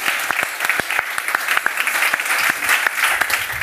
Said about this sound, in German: Ach, ist das schön. Applaus.